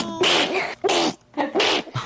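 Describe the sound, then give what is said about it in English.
Three forceful sneezes in quick succession from a 12-year-old girl, each a sharp, noisy burst with a brief pause between them, loud. “I can't stop sneezing.”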